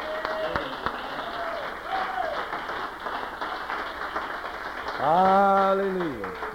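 An audience applauds in a steady, dense wash of clapping that lasts the whole time, while voices call out over it, including a loud drawn-out shout near the end.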